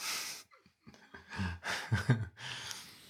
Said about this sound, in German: Oh Moment, ich muss nochmal husten.